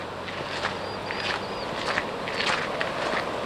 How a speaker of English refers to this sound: Clamshells and pebbles crunch underfoot on the shore of the Lummi Nation's Portage Bay in Northwest Washington.